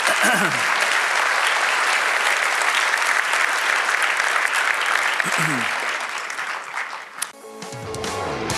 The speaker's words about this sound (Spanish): Si Dios te habla en este día, da un aplauso a Dios, que Él se lo merece.